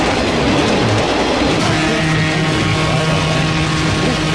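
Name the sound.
train rolling past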